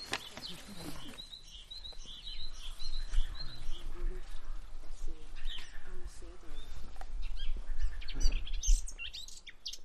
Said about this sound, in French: Alors là, on a eu un tout petit peu de fauvette à tête noire. Elle va recommencer sûrement. Ah oui, d'accord. Ah oui, elle est très, très aiguë. Elle est punchy.